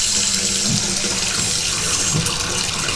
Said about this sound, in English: I'm going to turn the hot water back on here with my toes. There we go.